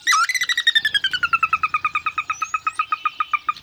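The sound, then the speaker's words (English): A sora's whinny: a loud run of rapid, evenly spaced squealing notes that slowly descend in pitch and continue steadily for several seconds, with a faint low rumble underneath. “Sora.”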